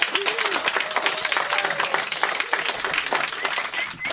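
Sustained audience applause, a dense steady wash of many hands clapping at once, fairly loud and continuous for the full four seconds, with faint voices mixed in underneath.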